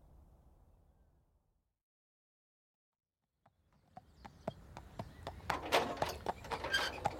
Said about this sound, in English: Oh, nice horse. Yes, he's a bit special, this one, aren't you, boy?